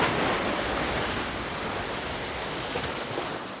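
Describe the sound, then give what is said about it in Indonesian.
Ocean waves foaming white roll and break on a beach in a steady, rumbling wash of surf, loud and continuous throughout with no individual crashes standing out. No voices are present. “Ombak berbuih-buih putih dan mengeluarkan suara gemuruh setiap kali menyentuh pantai.”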